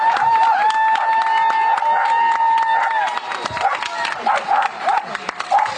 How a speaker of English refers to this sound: So then she comes out. Why are you cheering her? She lost.